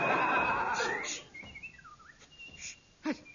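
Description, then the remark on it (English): A person whistles a short, wavering tune with sliding pitches, clear, ending with a quick rising note and a soft thump. “The highly skilled whistling tune.”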